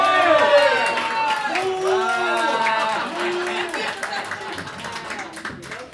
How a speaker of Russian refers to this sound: Под ваши бурные аплодисменты